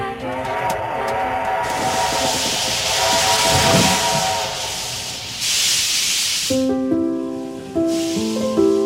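Loud steam hissing in repeated broad bursts from a steam locomotive, with a sustained whistle-like tone underneath and shifting pitched whistle notes near the end. No one speaks.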